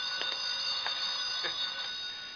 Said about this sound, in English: My phone's ringing. Look, you... Let me answer the phone.